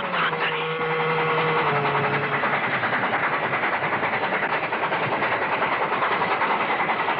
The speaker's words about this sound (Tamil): ரயில் நெருங்கிக் கொண்டிருந்தது.